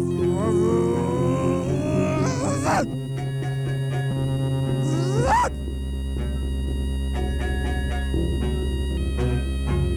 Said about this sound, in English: This moped went.